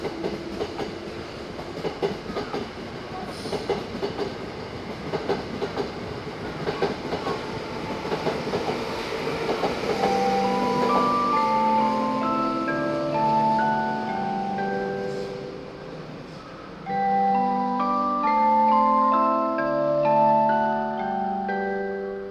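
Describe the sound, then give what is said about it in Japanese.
A train rumbles and clatters with steady rhythmic wheel clicks, then gives way to a series of clear stepped tonal notes as the rumble eases and the train pulls away from Fujisawa station in Japan, departing for Tokyo with its doors closing; next stop Ofuna. “浅間線から東京行き発車をいたします。 ドアが閉まります。”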